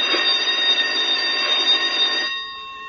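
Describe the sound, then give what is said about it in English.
A loud electric no-talking bell rings after lights out, continuously for a little over two seconds, a rapid metallic clatter with a high steady tone, then stops abruptly, leaving a brief fading hum. “There goes the no-talking bell.”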